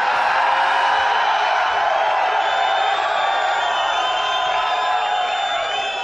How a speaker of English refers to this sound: It does sound like an ECW so here's crowd.